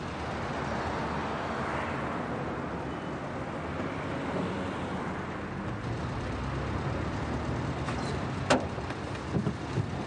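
Steady, muffled rumble of a car in motion, a continuous low road-and-engine drone with no speech, broken near the end by a few brief clicks and knocks.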